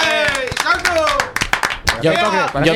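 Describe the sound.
Scattered hand claps ring out amid loud, excited voices cheering and calling out, the claps irregular and sharp against the dominant shouting.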